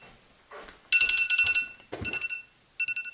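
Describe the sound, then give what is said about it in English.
A phone alarm, set for 7:45 but accidentally set to PM, goes off, a bright electronic melody of rapid beeping tones played in three short bursts, fairly loud. “Oh, that would have been my alarm.”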